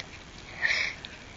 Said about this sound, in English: I'm going to get you a Kleenex. You just sound a little sniffly. Do you want to blow your nose?